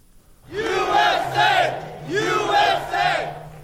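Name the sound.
crowd of supporters cheering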